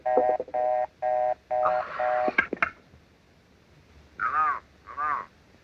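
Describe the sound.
Telephone line ringing on a call placed to a husband's office: five short, evenly spaced electronic tone bursts, fairly loud, then a few sharp clicks and two brief voice-like calls after a pause.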